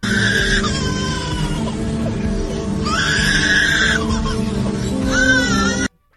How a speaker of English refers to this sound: Is that a crying baby? Is that some sort of bird? Or is that a monkey? That's a crying baby.